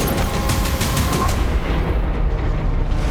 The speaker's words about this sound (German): Wie man schon hört, an Action-Szenen fehlt es der Serie nicht. In der Serie wird viel gekämpft und einiges explodiert.